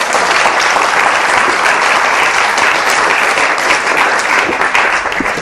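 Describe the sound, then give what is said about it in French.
An audience at a religious gathering applauds the cook, a sustained, dense, steady wash of many hands clapping at once, loud and even throughout with no voices standing out. “Alléluia, on peut l'applaudir.”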